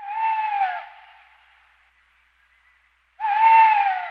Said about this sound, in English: An owl. Oh, an owl, okay.